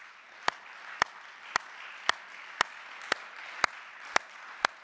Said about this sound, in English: Let's stand. Let's stand and let's clap our hands for salvation, shall we? Hallelujah.